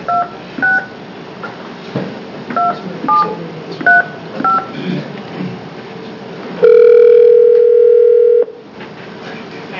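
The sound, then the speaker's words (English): A rapid string of telephone keypad tones beeps in an uneven rhythm as a number is dialed, followed by a loud, steady dial tone holding for about two seconds before cutting off, with low background hiss throughout. “Dial 9.”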